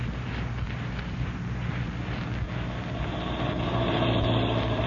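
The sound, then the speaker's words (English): A car engine rumbles steadily as the vehicle drives to Hyla's Cabins, the low hum swelling slightly near the end as it slows and pulls up right by the door of Shack 6. No one speaks. “You drove me so close to this door, and you can sit right here and still satisfy those nosy ears of yours.”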